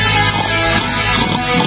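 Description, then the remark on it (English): A voice mimics a pot-bellied pig, making loud oinking grunts in a nearly continuous run of snorty squeals lasting under two seconds, with no other talk. “We got the pigs, the pot-bellied pigs coming on. Hey. That was a good pig, actually.”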